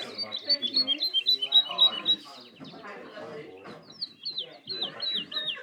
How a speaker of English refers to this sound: There are birds ruffling their feathers, calling out to each other that the day is starting. It's time to get a wriggle on.